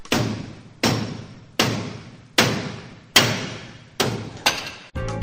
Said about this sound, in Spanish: Martilleo.